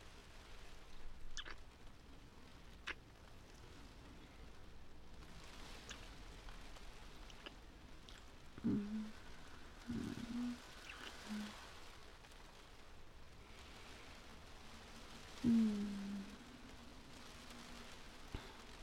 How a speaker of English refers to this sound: Why are you up, by the way? The rain?